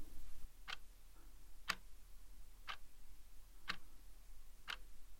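A neighbour seated to the right clicks a pen five times at a steady pace, roughly one sharp click per second, each a short bright snap over a quiet low hum with no voices.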